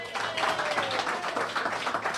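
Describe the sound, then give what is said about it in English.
A small group claps steadily for a couple of seconds, a thin, uneven patter of hands with no cheering, holding a fairly even loudness throughout. The applause welcomes BGSU women's soccer coach Matt Fannin at Frickers and comes from the host's parents in the front row. “Well, that's a rousing round of applause, huh?”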